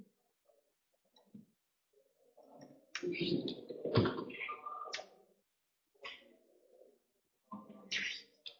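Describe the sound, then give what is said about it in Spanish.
A few sharp clicks and taps on a computer keyboard, somewhat irregular, mixed in with muffled vocal sounds and light background noise. “Bueno, no me escribe el teclado, no sé por qué, disculpad.”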